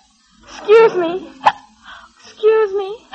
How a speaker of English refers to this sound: You see, your hiccoughs are diminishing in frequency and violence already.